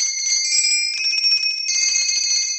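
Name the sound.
door bell ringing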